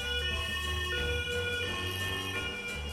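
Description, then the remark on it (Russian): A police car siren blares continuously from a screen as a police car with a flashing light speeds across it, a loud, piercing, sustained tone that fills the whole moment, with a low rumble underneath and no voices. “Пронзительно завизжала сирена. По экрану пронеслась полицейская машина с мигалкой.”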